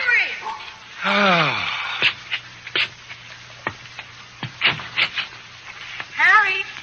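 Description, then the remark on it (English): A big excited dog jumping on people whines with long, sliding whimpers, broken by a string of short, sharp barks and yips, fairly loud, ending in another rising whine. “Can't you kids train that big ox not to jump on people? He's just glad to see you, Pop. Some watchdog.”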